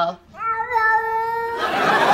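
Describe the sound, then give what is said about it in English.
A cat lets out a single long, drawn-out meow that rises and then holds steady, clear, followed by a burst of rough, hissy noise. “Listen, it sounds like the cat saying hello.”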